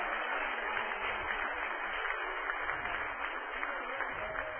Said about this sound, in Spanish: ¡Aleluya! Dale un aplauso al Padre, al Hijo y al Espíritu Santo.